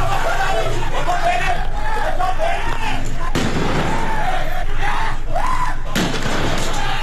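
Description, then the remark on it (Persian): A crowd shouts and murmurs in the open during a violent clash between protesters and government forces in the city of Qahderijan, Isfahan province, on a Wednesday evening, as two sharp, loud bangs of gunfire or explosions burst through, one midway and another shortly after, with the agitated voices carrying on throughout. “ویدیویی که از وقایع شامگاه چهارشنبه 18 آبان در شبکه‌های اجتماعی منتشر شده نشان میده که درگیری شدید بین معترضان و نیروهای حکومتی در شهر قهدریجان در استان اصفهان رخ داده که صدای تیراندازی و انفجار رو هم در این ویدیوها میشنویم.”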